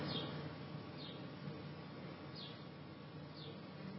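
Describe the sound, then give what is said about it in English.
A few faint, brief bird chirps sound at spaced intervals, barely rising above a steady low background hum. No one speaks. “And even the birds are joining in.”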